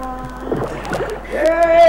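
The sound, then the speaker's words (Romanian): Water sloshes and splashes as a small boat approaches, its rhythmic paddling sounds mixed with a sustained, droning voice-like tone that swells toward the end. “Vine spre noi o barcă în care sunt regele și ducele.”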